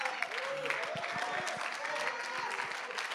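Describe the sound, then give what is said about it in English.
An audience applauds in a steady, dense patter of many hands clapping at once, moderately loud throughout, with faint voices and a soft sustained tone drifting underneath. “Come on, don't clap if you're going to do it like that. Clap like you mean it.”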